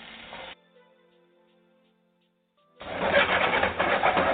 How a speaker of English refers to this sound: Our frying pan is nice and heated. We're going to heat that with about a tablespoon and a half of oil. Nothing too much. I'm going to go in now with the first thing here, my onions. Hear that sizzle?